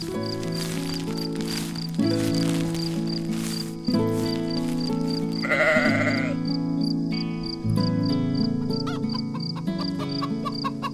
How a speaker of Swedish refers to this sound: Ljud igen. Ett hasande och hackande från någon utanför. Det är bara hönan som vill komma in, säger Bubblan.